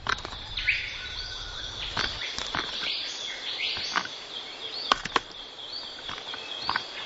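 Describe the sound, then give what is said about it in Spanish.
A young bird pecks eagerly at a tree trunk in sharp, irregular wooden taps, some in quick pairs, over a steady background of insects and occasional bird chirps. “El joven picotea el tronco afanosamente.”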